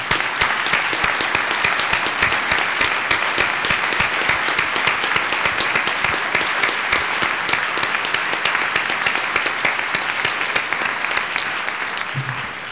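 An audience applauds an advisory committee steadily for several seconds, a dense, sustained patter of many hands clapping, with no talking over it.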